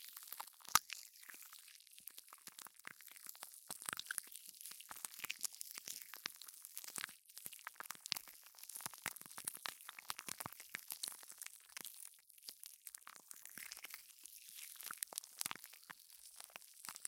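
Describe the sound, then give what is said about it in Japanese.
Soft, wet squishing of carbonated gel that has lost its fizz, a steady stream of small crackly squelches with no fizzing, fairly quiet and continuous with frequent brief peaks, no voices. “こうなるとただのジェルって感じです。”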